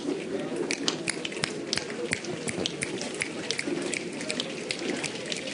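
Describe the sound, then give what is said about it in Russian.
In a group game imitating rain, palms rub slowly together in a steady soft rustle like wind, while scattered sharp taps land irregularly on top, imitating the first raindrops of a shower. “Сначала мы начинаем медленно тереть ладонями. Шуршит ветер.”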